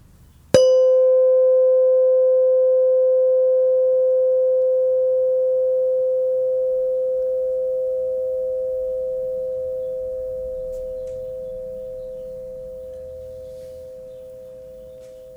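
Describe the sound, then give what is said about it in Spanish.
A single bell is struck once, ringing out with a clear, steady mid-pitched tone and faint higher overtones that slowly fade away over about fifteen seconds, with no talking. “Ahora volverás a escuchar la campana.”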